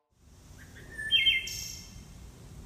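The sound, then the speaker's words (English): Many common local birds sing at once in a layered outdoor chorus recorded in a town, with bright chirps and whistled notes overlapping continuously above a low rumbling background, moderately loud and steady throughout. “Oh, wow, that's like a ton of birds.”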